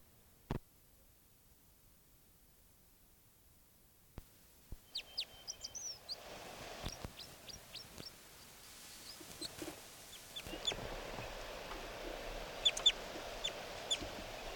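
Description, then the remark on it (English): Short, high-pitched flight calls from bird 387 chirp in an irregular series, quiet at first and growing busier over a rising background hiss, with a few sharp clicks early on. “And that's bird 387 getting flight calls now.”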